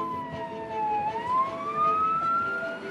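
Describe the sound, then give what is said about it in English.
An ambulance siren as the ambulance pulls up to a university hospital, wailing continuously, its tone dipping slowly and then climbing again, fairly loud over a low rumble of road traffic, with no one speaking. “2 months prior, an ambulance had pulled up to the university hospital, carrying a man experiencing severe pains in his chest and a shortness of breath.”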